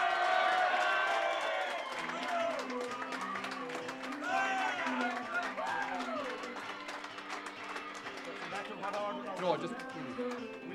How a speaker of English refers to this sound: I tell you, a big cheer for one of the unsung heroes